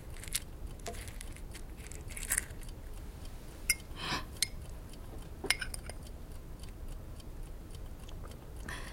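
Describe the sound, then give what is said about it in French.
Someone chews and swallows a lozenge, with soft crunching and wet clicking mouth sounds at an irregular pace and a few sharper clicks, over a steady low background hiss. “Et maintenant, avalez cette pastille.”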